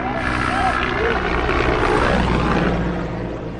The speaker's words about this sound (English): Just an hour before, the presidential helicopter landed in a nearby pasture